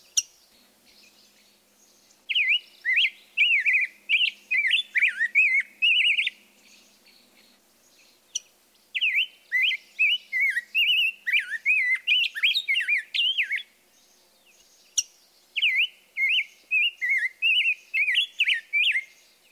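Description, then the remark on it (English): A rose-breasted grosbeak sings three rich, warbling phrases separated by short pauses. A couple of sharp, metallic chink call notes cut in between them, clear against a quiet background. “Listen for this call note interspersed with a melodious song.”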